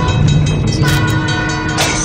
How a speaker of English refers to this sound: You got the bell. Obviously, the large train. Right. It's coming. You can hear it getting closer.